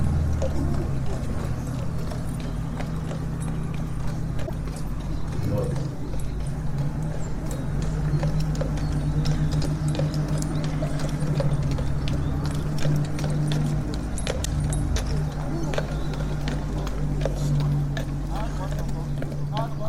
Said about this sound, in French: Paysan part avec son cheval et sa carriole.